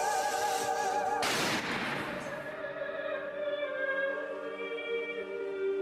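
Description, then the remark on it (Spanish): A single loud gunshot cracks out inside a house about a second in, its echo fading quickly, while a sustained musical background plays on underneath. “El disparo detona en la casa y la madre mira sobresaltada hacia arriba.”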